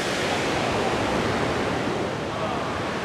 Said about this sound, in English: So, yeah, there we go. Waterfall.